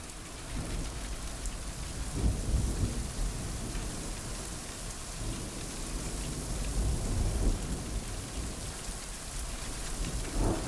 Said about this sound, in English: The thunder rolled in a distant chorus with the lashing rain and crashing waves, even with the periodic beam into the darkness.